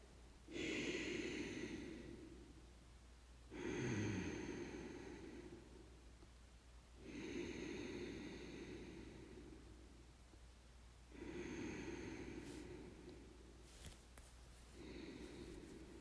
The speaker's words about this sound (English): And that's it. Ujjayi breathing. Very useful.